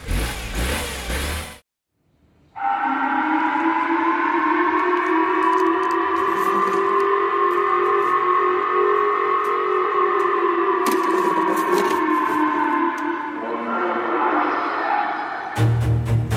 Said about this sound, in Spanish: Lo que escuchamos fueron las alarmas que el gobierno de Japón activó en algunas de sus ciudades ante la amenaza de la caída de un misil en su territorio.